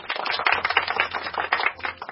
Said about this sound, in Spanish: A ustedes, queridos oyentes, a quienes dedicamos este fuerte aplauso de nuestro corazón.